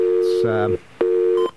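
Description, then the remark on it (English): A steady telephone dial tone hums in two short, clear bursts, broken by a brief pause and a click, with a faint voice briefly overlapping the first burst. “Okay, we got our dial tone?”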